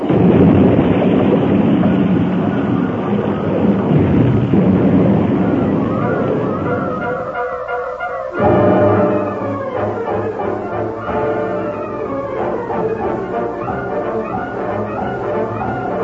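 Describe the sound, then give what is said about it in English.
Train cars leave the rails at a turn, roll over and over, and crash into great boulders lining the slope in a long, loud rumbling roar of tumbling metal, then a sudden jolt gives way to ringing, screeching metallic tones that slowly fade. No one speaks. “The cars left the rails at the turn and rolled over and over until they crashed into the great boulders that lined the slope.”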